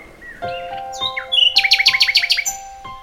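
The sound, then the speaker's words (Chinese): A nightingale sings alone and clear in an imperial palace before the emperor: sliding whistled notes give way to a fast, rhythmic run of bright repeated chirps, then a final soft whistle. “夜莺唱出婉转的歌曲，大家都屏息聆听。”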